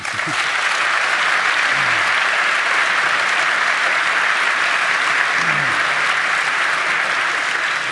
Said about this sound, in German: Ja, also dann nochmal einen dicken Applaus